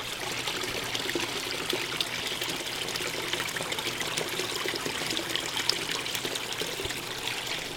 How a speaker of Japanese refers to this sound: 水の音はとても穏やかですね。